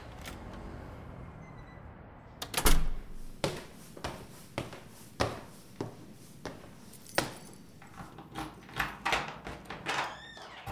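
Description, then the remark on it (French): The door on the left of an apartment in an apartment building opens with a heavy thud, followed by a string of sharp clicks and knocks at irregular intervals, with no one talking. “Il y a un code d'entrée et un interphone. Voilà, c'est la porte à gauche.”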